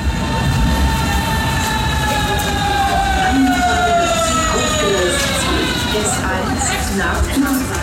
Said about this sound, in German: Diese S-Bahn, die hier gerade im Bahnhof Zehlendorf einfährt, wird gleich noch eine wichtige Rolle spielen.